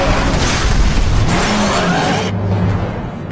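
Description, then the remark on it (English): A loud car sound with roaring engine and tires skidding, a dense burst of harsh noise like a crash that dulls and fades near the end. No one speaks. “would the accidents be as dramatic as what's being played out right now?”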